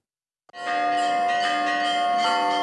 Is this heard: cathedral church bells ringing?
yes